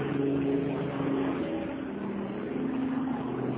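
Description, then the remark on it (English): A crop-dusting helicopter drones overhead, a steady, loud engine roar with a low humming tone running underneath, holding an even level throughout with no voices. “Thank you for the helicopter that just went over, too. They're crop dusting or whatever they're doing out here.”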